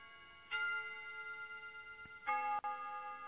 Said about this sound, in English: And let's just imagine these bells being moved by the wind.